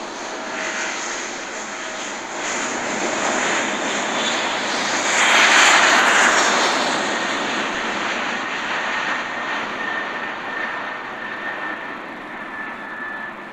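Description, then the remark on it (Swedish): A steady airplane engine drone heard from inside the cabin shortly before the plane taxis out, a broad rushing hum with a thin high whine, swelling briefly midway before easing back to an even roar. No one speaks. “Snart är det dags att taxa ut.”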